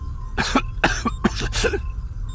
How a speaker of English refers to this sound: At Bell Iblis's nod, one of the medics did something to the treatment wrap around the Imperial's upper arm, and as Han and Lando found places at the side of the bed, he coughed suddenly, and his eyes fluttered open.